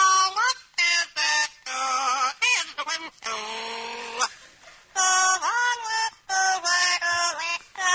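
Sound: parrot singing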